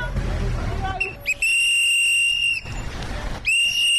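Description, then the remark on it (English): A traffic warden standing in the middle of a road in a Kampala suburb, right hand raised, blows a whistle to signal motorists to stop so schoolchildren can cross: a short chirp, then two long, loud, shrill blasts separated by a brief pause, over a low rumble of street noise. “George blows his whistle while standing right in the middle of the road with his right hand in the air, signaling motorists to stop.”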